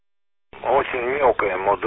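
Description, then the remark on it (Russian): After a brief silence, a thin, band-limited voice comes through a radio receiver. The amateur transmission sounds muffled and weakly modulated, with steady hiss underneath the talk. “Очень мелкая модуляция, сейчас я прибавлю громкость, попробую забрать.”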